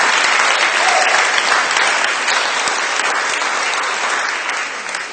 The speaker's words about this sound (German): Also die Sonne scheint und sie sind noch ein bisschen träge und müde, deswegen musste ich sie auch extra animieren, mal Applaus zu geben.